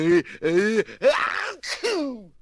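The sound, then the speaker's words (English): A drawn-out, theatrical sneeze: two rising, voiced 'ah' build-ups followed by a loud, breathy burst and a falling, wavering tail, performed by a voice. “Gesundheit.”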